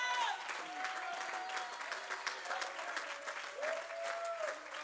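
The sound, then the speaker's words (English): An audience breaks into sustained applause as a hand clap of praise to God, a dense wash of hand claps with faint cheering and a few rising voices mixed in, steady and fairly loud throughout. “Oh, let's give him a hand clap of praise.”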